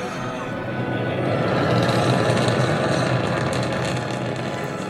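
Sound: rocket launch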